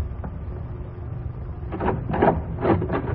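A door is opened, with a few short scraping, rattling bursts of its mechanism over a steady low rumble, growing busier toward the end. No one speaks.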